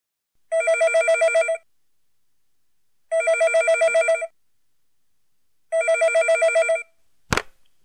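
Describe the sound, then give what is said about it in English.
A telephone rings three times, each ring a rapid warbling electronic trill lasting about a second with pauses between, then a sharp click like the receiver being picked up. “Who answers the phone?”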